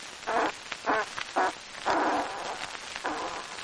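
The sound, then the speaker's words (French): A rapid string of fart sounds, five or so sputtering bursts of varying length, one longer and drawn out, fairly loud with no talking. “Mais qui que t'as l'air en une pour péter comme ça, hein?”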